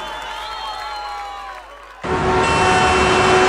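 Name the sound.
audience applause and cheering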